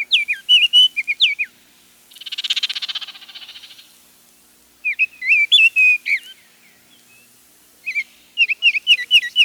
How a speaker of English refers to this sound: But the oriole's song was the favorite of another.